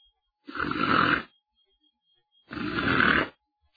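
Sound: imitated snoring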